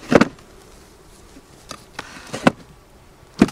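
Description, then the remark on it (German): A wooden bee escape board with a small hole is slid under a tilted-up hive box while preparing the honey harvest, making a handful of sharp wooden knocks and short scrapes spaced irregularly, with a faint buzz of bees behind. “Man geht hin, kippt die Zarge an, schiebt die Flucht drunter.”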